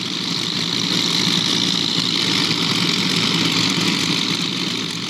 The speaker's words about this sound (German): An vielen Stellen des Mekong schwimmen große Baggerschiffe. Unaufhörlich pumpen und schaufeln sie das neue Gold aus dem Flussbett. Sand.